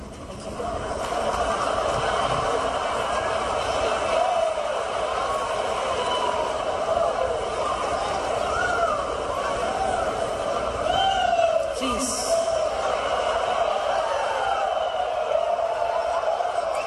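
A large local crowd at a tennis match roars and chatters steadily throughout, with scattered whoops and mock squeals rising above the din, spectators mocking the grunting of a 19-year-old female player during her three-set loss.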